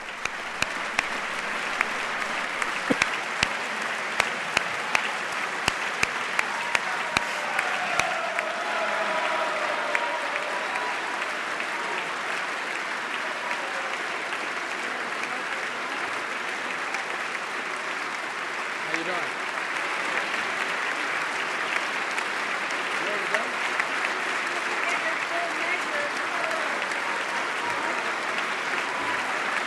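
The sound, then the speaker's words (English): A large crowd of standing members of Congress applauds the President steadily and without pause for the full half minute in the House chamber as he is about to give his last State of the Union, a dense wash of clapping with faint voices and cheers mixed underneath. “President getting a very sustained, prolonged round of applause from the members who are standing and welcoming him as he gives his last, or is about to give his last State of the Union.”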